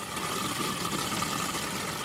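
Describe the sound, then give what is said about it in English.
A steady, continuous rush of water running off water park slides into drains at Water World, which collect it back into a reservoir for reuse, with a constant level throughout and no voices or other distinct sounds. “There's drains collecting water wherever it runs back into a reservoir.”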